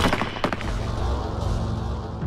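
A ragged volley of rifle shots cracks out almost together, a few sharp reports bunched in the first half second, then a heavy low rumble rolls on and slowly fades. No one speaks.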